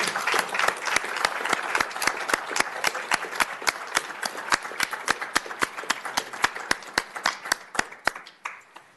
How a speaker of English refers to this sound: Lastly, let's give all of the candidates a round of applause.